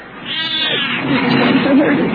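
A cat growls angrily, a continuous harsh, rumbling snarl with raspy, wavering pitch that swells slightly louder toward the end, with no talking over it.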